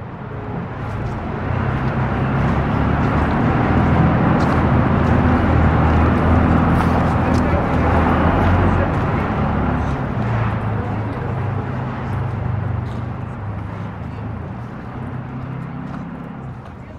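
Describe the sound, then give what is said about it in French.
Light street traffic in Moscow on a public holiday, Defender of the Fatherland Day, hums steadily, with a continuous low rumble of passing vehicles and faint, indistinct background activity, swelling slightly midway before easing off toward the end. “Il n'y a pas beaucoup de circulation selon les critères moscovites, n'est-ce pas”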